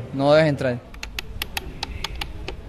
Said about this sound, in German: tippt auf seinem Computer zu Hause.